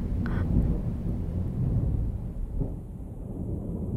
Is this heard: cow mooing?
no